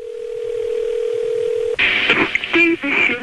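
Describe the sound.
A steady, loud telephone dial tone hums for under two seconds, then gives way to a quick jumble of dialing tones and beeps as a woman phones a union official in Washington, with a possible voice mixed in.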